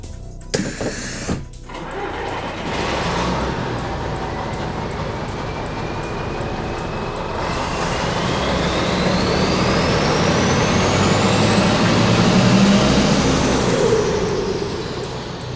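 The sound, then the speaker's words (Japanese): A Fukuyama Kanko tour bus engine rumbles steadily with a whine that rises as it accelerates, after a brief sharp hiss of air brakes at the start. No one speaks. “バスに乗れ。”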